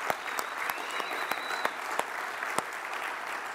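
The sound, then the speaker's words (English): A crowd applauds student ministry volunteers steadily, a dense wash of many hands clapping with a few sharper individual claps popping out above it, plus a faint whistle-like tone early on. “And so can we give a round of applause for student ministry volunteers?”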